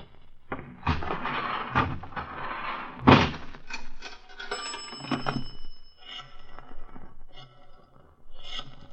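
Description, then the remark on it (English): The front lobby door shuts with a solid thunk as someone leaves, amid scattered bumps and rattles, followed by a brief thin ringing tone and softer knocks fading out. “You can get out through the front lobby door.”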